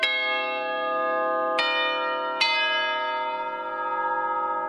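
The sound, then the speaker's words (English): Three bright chime strikes ring out, the second and third coming in quick succession, each leaving a long, shimmering tonal decay that fills the space. These are library closing chimes, carried over security staff radios through a large building with high ceilings. No one speaks. “The reason why we use, well, the chimes is because it goes through the whole building, with the building having the high ceilings, and all the security staff have the radios on, so like kind of transmit through all the departments.”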